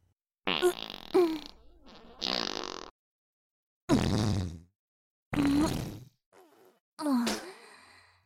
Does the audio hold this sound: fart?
yes